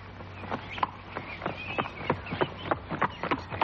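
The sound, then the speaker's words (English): Horses exercising at a stable in a small country town clip-clop in a steady, brisk rhythm, sharp knocking beats arriving several per second over a low continuous hum, with no voices. “Very soon, we were driving through a gate which said, "Danger, horses exercising."”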